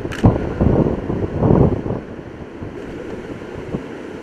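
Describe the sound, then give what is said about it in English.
Strong wind gusts on a beach, suddenly picking up 5 to 10 miles an hour, buffet the microphone in broad, rumbling surges, loudest in the first two seconds, then settling into a steady roar with surf washing underneath. “Notice the wind just picked up 5 to 10 miles an hour just all of a sudden, and the waves are already showing that.”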